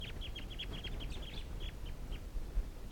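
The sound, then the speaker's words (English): Rapid series of short, high-pitched calls from a wild flock of ducks, with decoy ducks joining in, tapering off and spacing out over a steady low rumble of background noise. “Wild flock, and the decoys are also calling.”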